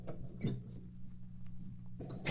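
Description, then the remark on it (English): A cabinet door opens with a soft click as someone gets a magnifying glass from it and, after a pause, shuts with a louder clunk over a low, steady room hum. “Yes, I get glass from cabinet.”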